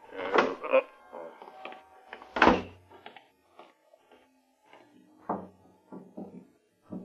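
A car door is opened with a click and clatter as someone gets out to look at the engine, then swung shut a couple of seconds later with a solid thunk, followed by quieter shuffling and movement sounds.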